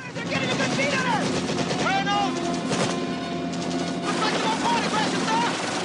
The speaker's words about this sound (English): Explosions erupt around the chopper.